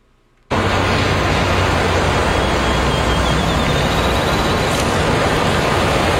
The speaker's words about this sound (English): All right, a lot of ocean noises. We had a minute of ocean noises for the clip that you sent.